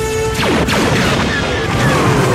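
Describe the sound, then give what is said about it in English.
A screaming, TIE fighter-like whine sweeps downward in pitch several times over a loud, dense rumble of booms and crashes, with no voices, at the end of a movie scene where a blue head is blown up. “You totally hear a TIE fighter screaming by at the end of that.”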